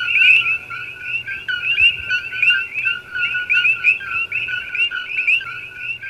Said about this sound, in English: When the sun goes down in Oahu, Hawaii, the songs of the Kokui frogs begin.